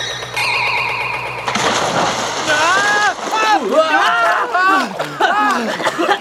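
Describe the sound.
A bright magical chime gives way to a loud, rushing splash as boys and their bikes fall into water, followed by several young voices shouting and squealing in alarm.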